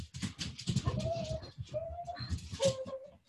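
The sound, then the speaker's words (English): Dogs whine excitedly, three drawn-out high whimpers over restless shuffling and panting, with no one talking. “Yep, my dogs thought that was a sign I was going to get up and let them out.”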